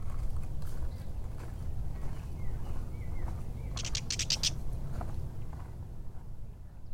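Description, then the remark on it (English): A catbird gives a short burst of harsh, rapid chatter from bramble bushes by a marsh, after a few faint chirps, over a steady low outdoor rumble. “What was that bird that just went? Cat bird.”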